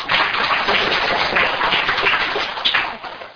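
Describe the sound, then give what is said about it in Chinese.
An audience claps steadily in sustained applause to welcome a married couple of speakers, a dense, even wash of many hands that holds strong throughout and tapers slightly at the very end, with no voices over it. “那我现在就把时间交给他，那也请大家我们来欢迎鼓掌他们。”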